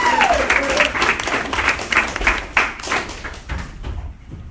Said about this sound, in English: And let's get a big round of applause going for your next comedian